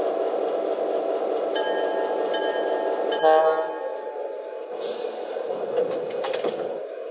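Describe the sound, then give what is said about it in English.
A passenger train from Chicago rolls steadily into Battle Creek station on track 1, a continuous loud rumble with thin metallic squeals and clinks from the brakes and wheels, no voices heard. “arriving from Chicago on track 1, the train of tomorrow.”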